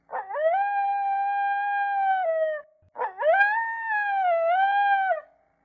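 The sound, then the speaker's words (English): A jackal howls twice, each long, clear wail rising sharply and holding steady for over two seconds, the second call wavering slightly in pitch, loud with no other sounds. “Just as they had arranged all the golden dishes and precious jewels and costly items into three heaps, a jackal howled.”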